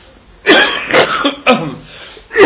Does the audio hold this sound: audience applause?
no